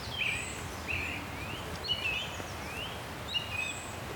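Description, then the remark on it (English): A treecreeper sings thin, high-pitched phrases like a needling giggle, faint, repeating several times over a steady hiss of outdoor background noise on a green lane. No one speaks. “Now, there is a tree creeper singing here.”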